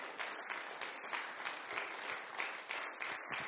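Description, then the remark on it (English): An audience clapping their hands together in praise to God in a steady, dense wash of applause, many overlapping claps forming a continuous bright patter with no voices standing out. “Would you clap your hands unto him right now and give him praise?”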